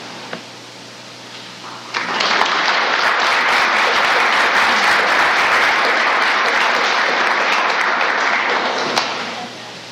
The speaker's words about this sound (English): Let's have one last big round of applause for everyone who shared.